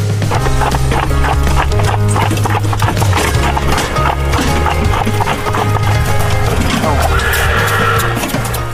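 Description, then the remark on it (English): Ambisonic recording of a two-horse carriage from the Stereotype Sounds library Ambisonic Horse Carriage: hooves clip-clop in a steady, busy rhythm, loud and continuous, with a horse whinnying over the low rumble of the rolling carriage. “Ambisonic Horse Carriage by Stereotype Sounds features ambisonic recordings of a two-horse carriage.”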